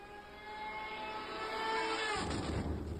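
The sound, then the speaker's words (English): A military drone flies overhead with a steady, buzzing engine drone like a moped or lawnmower, carrying layered humming tones. The sound grows slightly louder and rougher toward the end, with no talking. “So you hear the sound of the drone up above. It sounds like a moped or almost a lawnmower up in the air.”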